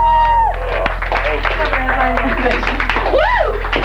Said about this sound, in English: I just wanted, I knew that there'd be such little applause, but I wanted to get here before it died down.